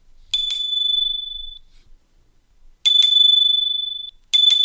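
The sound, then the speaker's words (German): A Wahoo bike computer's bell rings three times, loud, each ring a quick double strike followed by a bright, sustained ding that fades out. No one speaks. “Aber jetzt sage ich gleich, der Wahoo klingelt eigentlich genauso laut wie der Spur Cycle Bell.”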